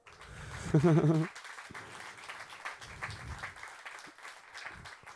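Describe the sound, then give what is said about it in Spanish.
A church audience in Santiago applauds steadily to welcome a first-time visitor from Uruguay, a dense wash of clapping that carries on throughout, with a brief loud voice or cheer rising over it near the start. “Te puedes poner de pie para que te pueda ver la gente y te podamos recibir con un aplauso.”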